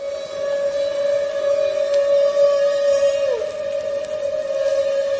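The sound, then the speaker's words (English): A humpback whale feeding call, made while a group hunts herring with bubble nets: one long, steady trumpeting tone with buzzy harmonics, sustained loudly for several seconds with a slight dip in pitch near the end, heard alone underwater. “And at the same time, Omani says, maybe the same whale that's blowing the net, or maybe another whale in the group, we're not sure, makes these feeding calls.”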